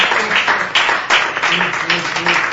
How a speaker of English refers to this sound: It's all right to clap.